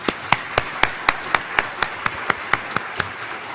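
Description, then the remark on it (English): Steady, evenly paced clapping as an audience applauds participating schools: about fourteen sharp claps in a row over a softer, continuous wash of background applause, with no voices. “Perhaps you could join me in giving a round of applause for all these schools.”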